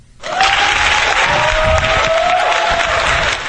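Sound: crowd cheering sound effect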